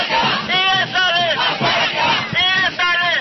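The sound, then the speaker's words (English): A large crowd of demonstrators at a rally for immigration reform shouts loudly, many voices rising together in repeated, rhythmic chant-like bursts over a constant roar. “The crowds weren't as big as last year, but they were just as enthusiastic.”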